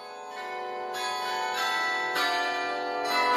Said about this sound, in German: Zu jeder vollen Stunde scheint das Glockenspiel des Osloer Rathauses die Stimmung in der norwegischen Hauptstadt etwas auflockern zu wollen.